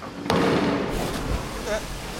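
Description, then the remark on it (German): A sudden burst of splashing water as someone jumps into a swimming pool, followed by a couple of seconds of churning, sloshing noise that slowly settles. “Aber was hat dann dieses Platschgeräusch gemacht? Das war ich. Ich springe die ganze Zeit ins Wasser und schwimme.”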